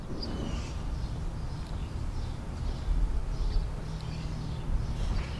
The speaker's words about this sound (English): I'm pretty sure this is a robin.